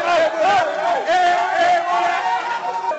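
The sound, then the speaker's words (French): A loud, continuous roar of Guinea's Sili National football supporters cheering and shouting in the capital, celebrating Guinea's qualification. Many voices blend into a dense, sustained crowd noise with rising and falling yells. “Dans la capitale, les supporters du Sili National manifestent leur joie.”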